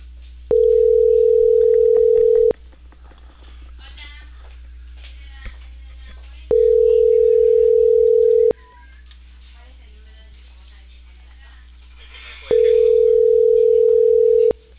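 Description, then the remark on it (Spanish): A loud, steady telephone tone sounds three times over a narrow phone line, each beep lasting about two seconds and repeating roughly every six seconds, with faint muffled chatter in between. “Madre, este teléfono suena muy fuerte.”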